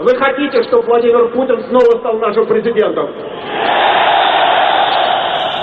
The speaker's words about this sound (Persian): بوریس آکورین، نویسنده سرشناس روس، در سخنرانی خود از جمعیت پرسید: شما می‌خواهید ولادیمیر پوتین باز هم رئیس جمهوری شود؟ و جمعیت یک صدا فریاد زدند: نه.